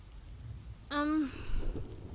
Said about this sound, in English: But, it appears that the sky is leaking. I think it's more than a little drizzle.